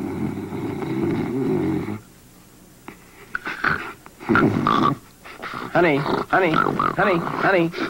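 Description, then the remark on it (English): A loud, rough, rattling snore drones for a couple of seconds, then stops, and people start talking. “You're snoring like I've never heard anybody snore.”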